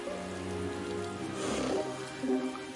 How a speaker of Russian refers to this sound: Как приятно слушать тихий шум дождя.